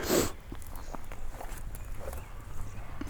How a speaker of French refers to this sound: Je pense que vous avez entendu ce bruit qui passait, ces deux biches qui viennent de bondir sous mes yeux.